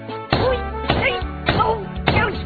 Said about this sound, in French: Mais qu'est-ce que tu fais? Ben, je tape avec mon marteau.